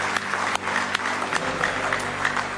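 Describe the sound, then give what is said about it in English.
A crowd applauds steadily in praise of the Lord, many hands clapping together in a dense, sustained patter with a few sharper claps standing out, fairly loud throughout and with no talking. “Oh, give Him one more good hand clap of praise.”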